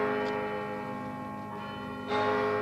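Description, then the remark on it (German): A church bell strikes eight o'clock with a rich, sustained tone, its long overtones hanging in the air before another strike lands near the end, loud with no voices. “Punkt 8. Auf den Glockenschlag genau geht's los.”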